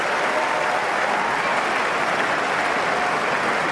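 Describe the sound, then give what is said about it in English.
A large tennis crowd applauds loudly and steadily after a rally played by Roger Federer, a dense wash of clapping that holds at full strength for the whole few seconds without fading, with no voices standing out. “Just listen to the crowd reaction on this one.”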